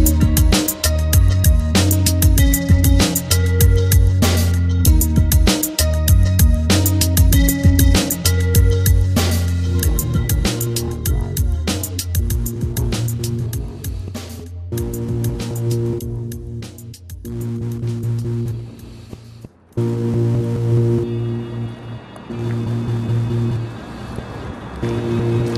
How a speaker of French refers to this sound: Là, on est sous le pont autoroutier, qui est une voie de trafic très importante, qui enjambe le chenal de Caronte, donc ce chenal qui amène jusqu'à l'étang.